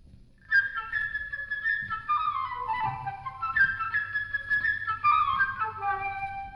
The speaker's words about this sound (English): Each one is represented by a different motif, and in the orchestra is played by a different instrument, like this. The bird by the flute.